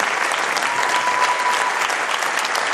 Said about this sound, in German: Nach 60 Minuten ehrt das Publikum dieses Feuerwerk an Schauspielkunst mit Standing Ovations.